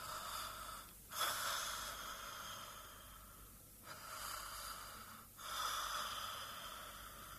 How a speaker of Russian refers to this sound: Послушай, перестал храпеть.